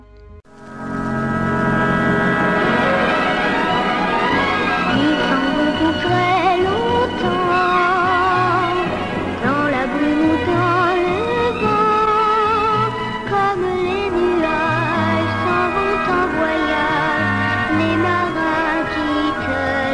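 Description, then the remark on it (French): The theme music of the French TV serial Sébastien et la Marie Morgane plays loudly and steadily for the full stretch, with sustained horn-like low tones, a pulsing bass line and shifting melodic lines above, with no voices. “La musique, pas spécialement gay, je trouve, mais bon, la voici.”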